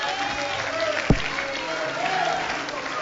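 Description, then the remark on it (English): An audience stands and claps their hands to the Lord in a steady, dense wash of applause that fills the whole clip, with one sharp thump partway through and murmuring voices faintly underneath. “Would you stand and clap your hands to the Lord one more time, somebody?”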